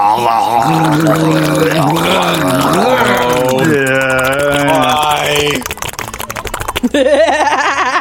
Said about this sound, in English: At one point, the sound of ocean was all there was for …, …, and …. But no longer. Now there was the overwhelming sound of a grown man gurgling his own saliva.